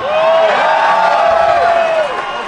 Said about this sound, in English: Now, a lot of you cheer, but you don't believe that Sasquatch...